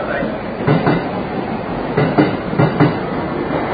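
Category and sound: vehicle, train arriving at station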